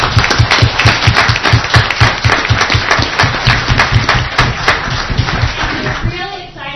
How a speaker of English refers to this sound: So I just want to give them a round of applause.